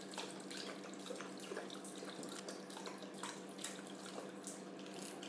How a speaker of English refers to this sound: Disabled toilets have sinks at exactly the right height for him. He is pouring water all over the floor, which doesn't help.